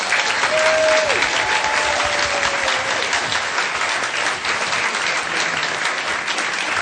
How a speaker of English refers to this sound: Come on, give them a clap as they come up.